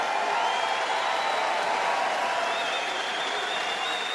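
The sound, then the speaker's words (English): A large crowd at a political rally cheers and applauds steadily, a dense wash of clapping and shouts that stays loud and sustained throughout, with no single voice standing out. “How can you say that with a straight face and people cheer when the clubs that you own, like Mar-a-Lago, are currently seeking out recruitment of foreign workers?”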